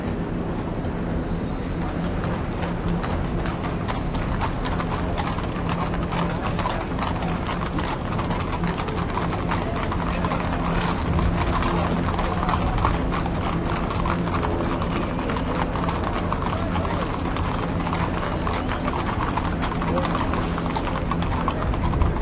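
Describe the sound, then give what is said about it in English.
Horse hooves clip-clopping on a street in a steady rhythm as a horse follows a phalanx of police motorcycles during street demonstrations, mixed with a continuous low engine rumble that runs throughout at a constant, fairly loud level. “Whoa, horse is coming now behind the bikes.”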